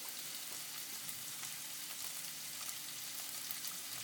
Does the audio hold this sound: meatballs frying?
yes